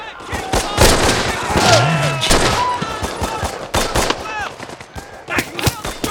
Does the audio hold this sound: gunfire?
yes